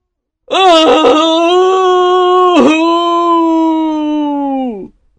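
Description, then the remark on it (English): A long, loud, terrible wailing cry of sadness from the sea, sustained and mournful with a steady pitch, sliding slightly downward before it cuts off. It sounds like a human voice performing the anguished wail. “Just then he heard a terrible cry of sadness from the sea.”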